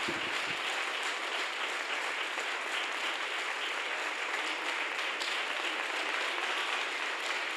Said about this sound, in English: Now, right there, I want all of you to stand on your feet and clap hands for Jesus. Just stand on our feet and just thank God and just clap hands for Jesus.